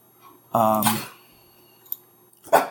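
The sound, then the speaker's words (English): A dog that wants to play lets out a short, whiny, playful yelp-like vocalization, fairly clear, followed by quiet, a faint click, and another brief breathy noise near the end. “Listen, I have a dog here who wants to play.”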